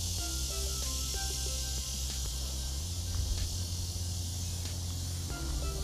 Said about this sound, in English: Listen, we can't change what's already here. The noise in the background, the crickets, the insects, everything that's already there, it can't be undone.